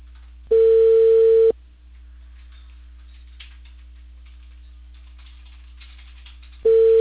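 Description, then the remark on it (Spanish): A steady telephone ringback tone sounds in a long beep, then a pause of about five seconds with faint line hiss, then the beep starts again: a call to a mobile phone number ringing without being answered. “No, ya no está contestando ya con el número que coordiné.”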